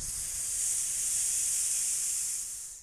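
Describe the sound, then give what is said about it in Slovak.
A snake gives one long, steady, unpleasant hiss, sharp and airy, lasting a few seconds before easing off slightly at the end. No voices are present. “Had zvýšil rýchlosť, potom spomalil a nepríjemne zasypel.”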